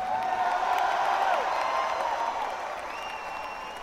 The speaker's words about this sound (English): I think you should give yourselves a round of applause. You've been great tonight. Thanks for having us.